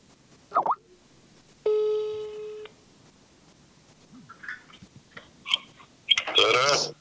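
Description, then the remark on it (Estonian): A telephone call being dialed to connect a caller: a steady electronic tone lasting about a second, then a few short scattered blips and a brief burst of line noise, fairly loud, with no talking. “Ma saan ühenduse. Teeme telefoni kõne siin enne lõppu.”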